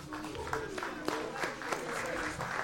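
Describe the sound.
Council members applaud themselves after unanimously passing the 2019 budget, dense overlapping claps at a steady moderate level with a few sharper hand claps standing out, and a murmur of voices underneath.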